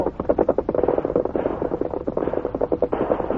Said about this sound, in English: That gunfire. On the other side of the hill.